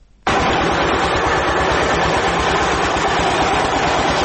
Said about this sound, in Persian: دستگاه‌های تولیدی فابریکه سمنت جبل‌سراج با وجود قدمت نزدیک به 70 سال هنوز هم چرخش فعالیتشان را دارند.